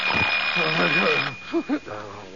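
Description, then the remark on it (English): A loud alarm clock bell in a bedroom rings at 7 o'clock on a Monday morning in a rapid continuous clatter for just over a second, then cuts off, followed by a person's groggy, drawn-out vocal sounds. “The only thing moving is the minute hand of the alarm clock in Daddy's bedroom, as it moves inexorably toward”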